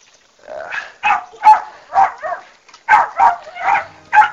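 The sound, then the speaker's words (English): A pet dog barks repeatedly in short, yappy bursts with a throaty, growling edge, about eight or nine barks in an uneven rhythm, fairly loud, with no talking. “I think you probably hear my dog.”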